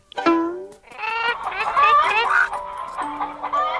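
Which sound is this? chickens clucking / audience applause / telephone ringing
chickens clucking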